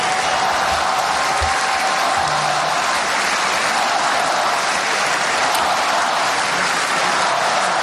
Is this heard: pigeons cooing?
no